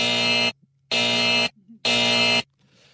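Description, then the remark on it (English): A harsh, loud electronic alarm buzzer, presented as a "DEET alarm" about insect repellent, blares three times in a steady on-off rhythm, each blast about half a second long with short gaps between, dominating. “And wait a second. This is the DEET alarm.”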